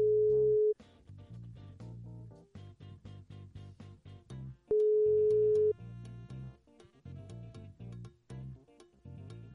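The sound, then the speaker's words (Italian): A telephone ringback tone: two long, steady beeps roughly four seconds apart, loud and clear, with rhythmic background music playing continuously underneath and between them. “L'ho fatto prima, solo registro, aggiungo questo, aggiungo la chiamata. Squilla.”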